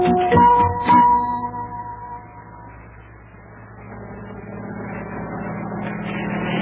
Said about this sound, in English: Well, look at that. Do you see what I see? It's a helicopter. Hey, now, what's that doing way over here over the ocean? It says U.S. Mail on the side. Is that helicopter bringing us mail?